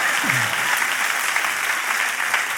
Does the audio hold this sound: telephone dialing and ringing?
no